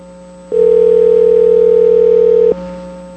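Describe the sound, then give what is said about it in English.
A loud, steady telephone dial tone hums without a break for about two seconds as a call is being placed, then cuts off abruptly, leaving a faint line hiss. No one speaks. “All right, we're going to try the phone thing again.”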